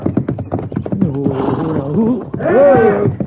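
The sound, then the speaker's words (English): A horse by a corral stamps and tramples a man with a quick run of heavy thuds, then lets out loud, agitated whinnies and squeals. “But that horse is stomping him.”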